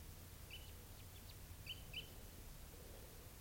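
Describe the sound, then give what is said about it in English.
A few short, high chip calls from a fairly good-sized small flock of type 3 birds, spaced irregularly over about two seconds, heard fairly faintly above a steady low rumble with no talking. “There's a fairly good-sized little flock here of type 3's.”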